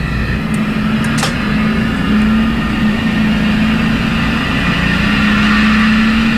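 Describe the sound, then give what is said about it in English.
A steady simulated car engine hums from inside the cabin of a driving simulator at the Children's Hospital of Philadelphia, its low droning tone holding constant, with a faint wash of simulated highway traffic, cars speeding past at 75 miles per hour during a merge, and no voices. “I'm behind the wheel, doing my best to merge onto a highway with cars speeding past at 75 miles per hour.”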